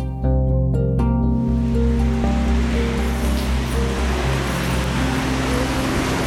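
Steady, fairly loud rain hisses without a break, a dense wash of falling water with a low humming drone running underneath; no one speaks. Rain on a May day in Liepāja.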